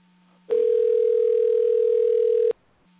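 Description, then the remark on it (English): A telephone line tone sounds once as a call is placed to another number, a steady, loud mid-pitched hum lasting about two seconds, with only a faint low hum before and after it and no voices. “And anyway, let me try him one more time here at the other number.”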